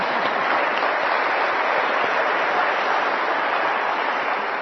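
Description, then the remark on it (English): A crowd claps steadily for several seconds in applause for everyone who has mothered others, a dense, even wash of applause that stays loud throughout with no voices over it. “Yeah, let's applaud that one.”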